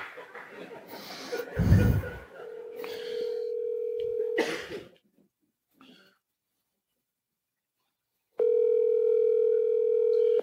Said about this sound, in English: Hold on. Let me get somebody on the phone. I'm going to make one call.